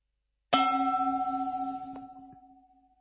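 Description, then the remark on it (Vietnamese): A single meditation bell, the second bell in a guided mindfulness practice, is struck once, ringing out with a bright attack and a long, wavering resonance that slowly fades, alone in silence with no voices. “Khi nghe tiếng chuông thứ hai, các hành giả chúng ta hơi bắc nhẹ vai mình, động nhẹ toàn thể thân thể của mình.”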